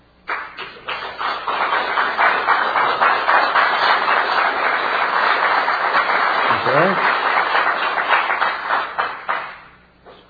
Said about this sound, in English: What time did we record that applause? We're live.